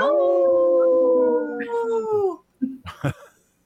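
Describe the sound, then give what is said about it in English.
A person imitates a wolf with one long, steady howl lasting a couple of seconds, followed by a few brief, sharp vocal sounds, as part of a Howling for Wolves message about protecting wolves. “Howling for wolves, protecting wolves for future generations.”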